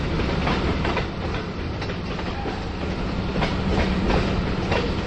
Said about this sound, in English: Depending on which way the political winds blow, Jefferson County residents who live near the train tracks will continue to hear this sound for countless years to come.